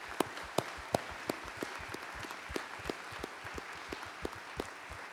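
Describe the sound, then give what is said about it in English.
A church audience at a memorial service applauds steadily to honor a woman's life, a dense wash of clapping with a few sharp, distinct claps popping out at a regular beat, moderately loud throughout with no talking. “Could we applaud the life of the hands and feet of Jesus through Miss Betty right now?”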